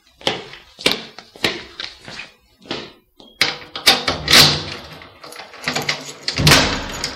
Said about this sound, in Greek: Ο άνθρωπος που ξεκλειδώνει για μένα την κεντρική πόρτα του κτηρίου είναι ο Τόμας Λούκοφ.